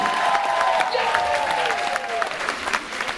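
A crowd applauds steadily, a dense, even wash of clapping that holds at a fairly loud level throughout, with a faint sustained tone gliding slightly downward beneath it early on.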